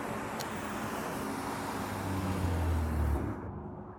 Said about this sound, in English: I rode a few of the familiar routes up the hills and then down, descending through the rush hour traffic, through the awkward, plodding vehicles stacked up at intersections.